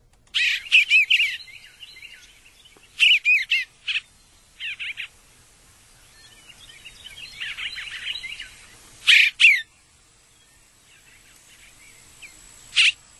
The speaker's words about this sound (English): And let's listen to the Eastern Bluebird again. So now you get keep your ears perked.